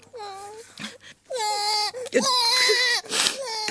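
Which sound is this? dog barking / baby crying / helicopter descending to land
baby crying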